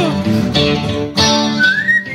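A bird, famous on TikTok and YouTube, whistles a melodic tune in bright, fairly loud phrases, with one note sliding smoothly upward near the end, over a dense, harmonically rich background.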